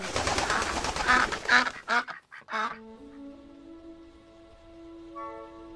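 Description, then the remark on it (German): A bird calls loudly, a rapid run of harsh, raspy honks over about two seconds, after which a steady tonal hum carries on alone. “Dieser Vogel ist von Haus aus Fußball.”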